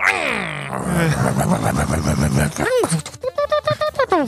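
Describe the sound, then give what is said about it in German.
A voice imitates a car engine with a loud, revving growl that rises and falls, ending in a rapid burst of short pulsing vroom sounds. “Ja, wie macht das Auto? Mach mal ein Geräusch dazu.”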